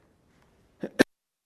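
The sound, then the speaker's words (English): Two quick, sharp coughs in succession, the second one louder and harsher, with quiet around them and no talking. “I'm gonna cough again.”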